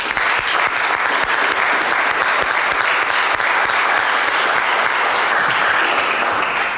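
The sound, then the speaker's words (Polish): A large audience applauds finalists who advanced through a competition to reach the hall, a steady, loud, dense wash of clapping that holds at full strength for several seconds with no voices on top. “Także również ogromnie wielkie brawa.”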